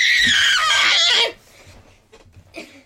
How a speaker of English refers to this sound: That was my son. He came in, yes. He screamed, and he left.